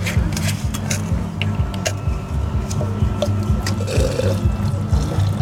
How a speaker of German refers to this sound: Man muss auch immer mal aus dem Crushed Ice Behälter das Wasser ausleeren.